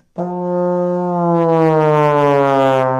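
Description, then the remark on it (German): A single sustained trombone note slides slowly downward in a smooth glissando as the player extends the slide while blowing into the instrument, loud and brassy throughout, lasting about three seconds with no voices. “Dafür braucht er lange Arme und wenn man seinen Zug ausfährt und gleichzeitig in das Instrument hineinbläst, klingt das so.”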